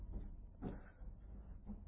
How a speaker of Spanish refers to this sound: se escuchó un engranaje. La puerta se abrió. Me sorprendió que era una puerta de titanio, de 10 centímetros de espesor.